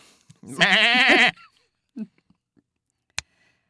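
A single loud, quavering goat bleat lasting under a second, with a wobbly, nasal tone, followed by near silence, a few faint soft noises and one sharp click.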